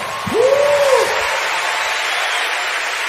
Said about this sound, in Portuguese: Aplaude ele aí, meu irmão.